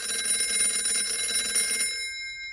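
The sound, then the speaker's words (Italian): An old-fashioned telephone bell rings in a rapid metallic trill for about two seconds, then stops, leaving a short fading ring. It is an unexpected call to Peshev from an old friend he had not seen in many years, on 7 March 1943. No voices. “Fino a quando una telefonata inaspettata da parte di un amico che non vedeva da molti anni lo sconvolse.”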